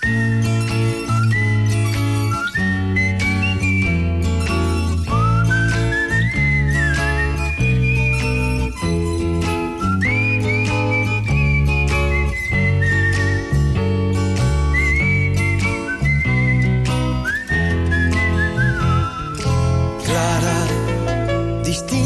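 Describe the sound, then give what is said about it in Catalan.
A bright whistled melody glides and swoops over a full band, weaving sustained, sliding notes through a steady, loud musical backing with no voices. “que jo crec que també farà cantar més d'un... I xiular. I xiular a més d'un dels nostres oients, efectivament.”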